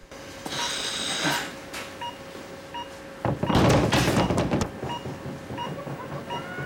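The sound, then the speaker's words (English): A woman outside an operating theatre pounds her fist on the glass in a rapid, loud flurry of heavy thumps that rattle the pane, set against a steady low background hum. “Paula bangs on the glass outside, startling everyone.”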